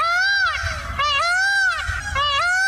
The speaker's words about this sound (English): You could say the city of Rancho Palos Verde outside Los Angeles has gone to the birds. Peacocks, actually.